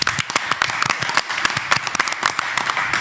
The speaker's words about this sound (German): Komm, ich spiele mal keinen Applaus, wir machen mal einen Live-Applaus.